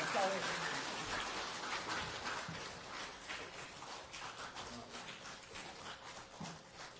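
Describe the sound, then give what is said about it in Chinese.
A church audience applauds steadily for about seven seconds in thanks for a serving church member, a dense, even patter of many hands clapping at once that fades slightly toward the end. “我们来就说感谢鼓掌，感谢他为神感谢他好了。”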